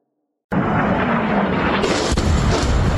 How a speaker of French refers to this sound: C'est le son qui a marqué l'actualité cette nuit. Au moins 3 explosions comme celle-ci entendues dans le centre de l'Iran près d'Ispahan.